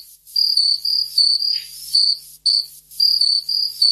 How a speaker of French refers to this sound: Bah, une mouche, un grillon. Oui, ouais. Voilà, un grillon, c'est bon.